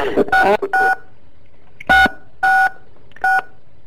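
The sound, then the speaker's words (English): A string of short electronic tone beeps, each two-pitched like touch-tone signals, sounds as callers join a conference call, arriving in irregular bursts, some clustered and some spaced apart, with faint murmuring voices underneath at the start. “All kinds of beeping going on now, now that the floodgates have opened.”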